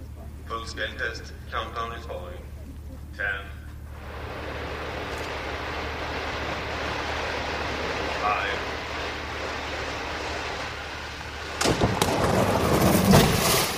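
A Volvo crash test: after a few brief spoken words, a steady rushing engine roar builds for several seconds as a brand new car fires out of a tunnel, down and over a ditch and about 5 metres into the air, then ends in a sudden loud, broad crunching impact into an embankment that rumbles on.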